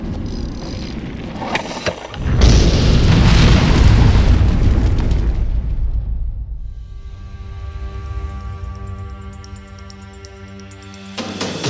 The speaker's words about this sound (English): Today, the Opau explosion.